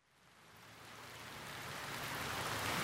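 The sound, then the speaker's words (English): Steady rain in cold weather hisses in a dense, even wash, fading in from quiet and growing steadily louder over a few seconds, with no voices. “I hate this rain and the cold.”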